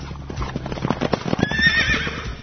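Horse hooves clip-clop in a quick, steady rhythm, fairly loud, then a horse lets out a high, wavering whinny over the hoofbeats.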